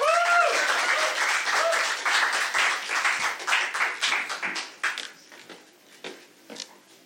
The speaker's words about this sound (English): Give it up again for him. Give it up again for him. That was a weak clap, everyone. I know this is a polite historical society meeting, but you can do better than that.